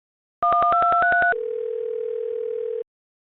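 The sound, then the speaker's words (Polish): A quick run of about seven touch-tone dialing beeps, rising slightly in pitch, gives way to a steady, unbroken mid-pitched telephone tone lasting over a second before cutting off, while calling a court. “Dzwonię do tego sądu.”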